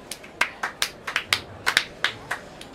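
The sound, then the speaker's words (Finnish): Applause for a trio after their talk that sounds thin: about a dozen sharp, separate claps in an uneven, fairly quick rhythm, crisp and bright, with no talking over them. “Heidän esitelmänsä aihehan oli kuivakkuus elämän asenteena, joten paikallaan on isokätiset aplodit hyväryhtiselle troikalle.”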